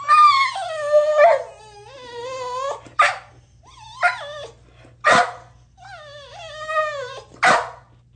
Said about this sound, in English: It sounds like a dog in stress.